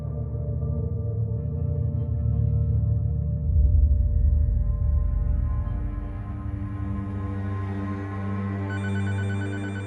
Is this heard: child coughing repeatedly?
no